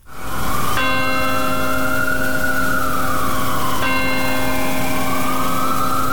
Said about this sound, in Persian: بامداد دوشنبه به وقت محلی و در 22مین سالگرد حملات 11 سپتامبر ناقوس امید در مقابل کلیسای پل مقدس در نیویورک به صدا درآمد تا خاطره کشته شدگان این حملات گرامی داشته شود.